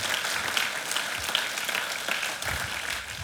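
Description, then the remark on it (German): Audience applause for God during an Easter church sermon fills the whole stretch, a steady, dense wash of many hands clapping at an even loudness with no voices standing out. “Können wir ihm dafür mal einen Applaus geben?”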